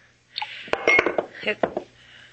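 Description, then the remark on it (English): A glass clinks against a water pitcher on a table several times in quick, irregular succession, sharp, with a faint steady hum underneath. “It's just that I'm not used to drinking water from a glass.”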